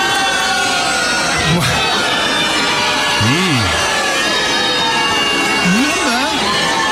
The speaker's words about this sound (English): Listen to the crowd. Initial cheers.